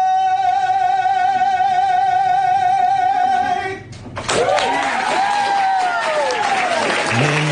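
A singer holds a long final note with vibrato, then it cuts off and the crowd at a Chick-fil-A restaurant bursts into loud cheering, applause and whistles that carry on to the end.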